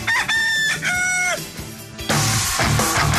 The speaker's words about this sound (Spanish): estás escuchando el gallo.